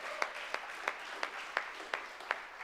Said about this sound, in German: Ah, perfekt, nochmal einen Applaus.